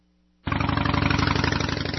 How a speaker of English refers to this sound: Loud motorcycles aren't cool. They're just chilly. Turn down the volume and show some respect. That's sound advice.